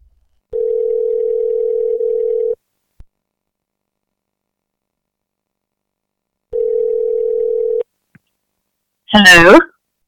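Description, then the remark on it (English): Two steady, mid-pitched telephone tones, each lasting about two seconds with a long silent gap between, as a call is placed. A brief voice answers at the very end. “don't we have a phone call to make?”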